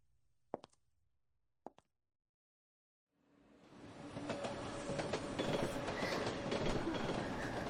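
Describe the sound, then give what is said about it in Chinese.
After two brief clicks and a moment of quiet, a subway train's loud, steady rumble rolls in and builds, with rattling clacks of wheels on rails running through to the end. “终于上地铁了”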